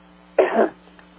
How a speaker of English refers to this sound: So indeed, excuse me while I just clear my throat.